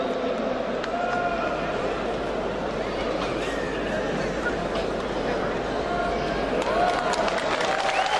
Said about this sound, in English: But even recently, the Prime Minister of Turkey used a huge one. And the crowd went nuts over it.